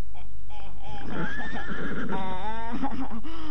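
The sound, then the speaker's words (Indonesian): A horse named Tunggul, untied by a hut as evening falls, neighs loudly: a long whinny with a shaky, wavering pitch that rises and then trembles down, heard on its own without any talking. “Benar-benar pandai kuda itu, Nona. Kelihatannya dia cerdik dan dapat menangkap kata-katamu.”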